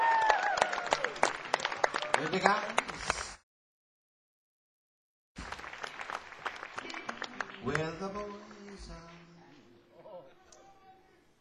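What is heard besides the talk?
audience applause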